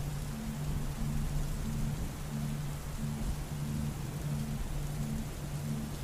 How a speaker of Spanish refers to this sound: Y aumenta el olor a tierra mojada. Nada es más importante ahora que esta tormenta de verano que estás presenciando en este momento.